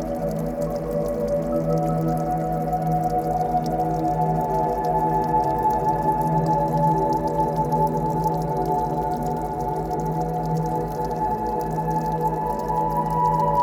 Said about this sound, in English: At the bottom of the steps is a stream, a gentle but steady stream of water. You cannot see the depths of the water, but you can hear the stream.